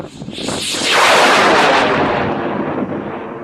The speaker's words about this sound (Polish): Moment, kiedy rakieta startuje z wyrzutni, ten syk, ta prędkość, wreszcie oczekiwanie, kiedy otworzy się spadochron, czy wszystko poszło tak, jakbym chciał.